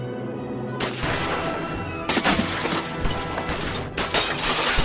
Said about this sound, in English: Monk Savage and his gang poured round after round of flaming lead into the darkened house where the Lone Ranger and Everett Barnes crouched on either side of the shattered window.